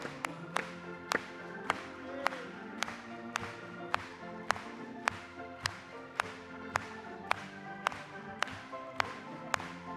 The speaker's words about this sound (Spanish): Vamos a aplaudirle.